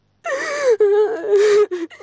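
A person sobs, with strained, wavering cries broken by sharp gasping breaths, a short burst of crying about two seconds long with no words spoken.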